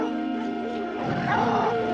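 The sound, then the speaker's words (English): Caged dogs bark and snarl in a tense, overlapping commotion as a tiger named Sultan paces toward their cage, steady for the whole moment, with a sustained tonal hum running underneath. “puts down his axe as he hears the dogs”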